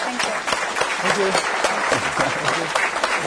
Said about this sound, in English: I think these folks deserve a round of applause.